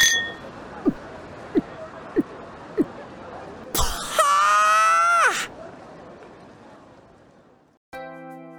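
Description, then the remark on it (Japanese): Four short, sharp clinks of glasses raised in a toast tap out at a steady pace over a soft background murmur. A loud, bright burst with a wavering tone follows, then quiet. “それじゃ、お前の新しい門出を祝して乾杯。”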